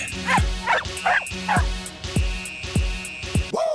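A dog barks about six times in a steady, evenly spaced rhythm, loud, with a faint high whine running underneath and no one talking.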